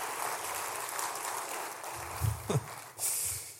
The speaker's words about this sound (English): That was a weak clap. If y'all gonna commit to the clap, commit to the clap.